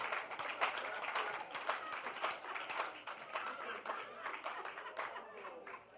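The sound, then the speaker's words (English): An audience claps for the Lord Jesus together in a dense, continuous burst of applause, many sharp hand claps overlapping at a steady, moderate loudness for several seconds with no voices standing out. “Clap for the Lord Jesus.”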